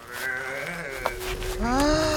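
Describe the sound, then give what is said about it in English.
A voice imitates a small mountain lion growl: a wavering, throaty, tonal sound lasting about two seconds, climbing in pitch toward the end, with no speech around it. “… let out a small mountain lion growl.”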